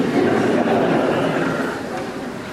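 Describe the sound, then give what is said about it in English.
A dense, steady chorus of croaking frogs fills the whole clip, many overlapping rasping calls blending into a continuous loud rattle with no pauses and no voices. “Of course, these are our frogs.”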